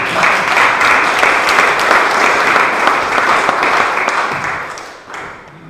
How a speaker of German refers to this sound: Und wenn Sie ihr jetzt auf die Entfernung hin einen kleinen Applaus spenden, dann werde ich ihr das auch schreiben.